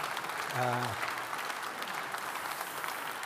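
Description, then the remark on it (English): An audience at a debate claps steadily in a dense, even wash of applause for a few seconds, with a single short voiced call rising briefly above it near the start. “And if you feel like clapping, may not be that.”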